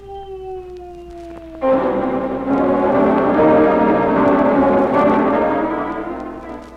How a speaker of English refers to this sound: Behind the little locked doorway, somebody moaning. Somebody in pain.